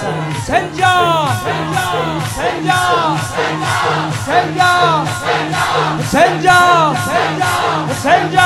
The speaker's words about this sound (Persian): این بچه کوچیکترا، شما بزرگترا داد بزنید بگید حسین با نفس تو، همینطوری که الان میگید این کوچیکترا با من فریاد بزنن.